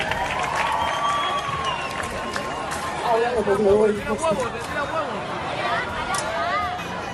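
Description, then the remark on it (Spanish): A crowd applauds and cheers, steady dense clapping mixed with whoops and shouting voices that swell in the middle before settling back to a continuous roar. “Un aplauso para”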